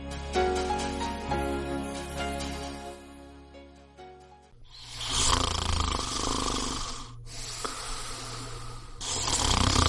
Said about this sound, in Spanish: Uf, ya está otra vez. Yo me lo cargo. Hay una solución más civilizada para acabar con los ronquidos y la apnea del sueño.